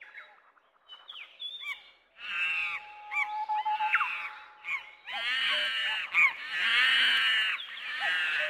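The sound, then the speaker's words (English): A troop of monkeys calls out in loud, harsh hoots and squawks, starting with a few rising cries and building into a dense, overlapping chorus with no one talking. “I can hear the monkeys.”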